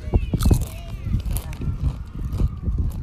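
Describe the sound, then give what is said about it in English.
Loud, irregular crunching of Doritos tortilla chips being chewed while camping at Cassini Ranch, sitting by a fire, with sharp crackly bursts in quick clusters over a low rumbling background and faint murmuring voices. “Hear that crunch? It's good stuff.”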